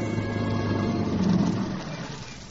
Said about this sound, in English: Tom Stevens and Helen Benson drive up to the boarding house after their picnic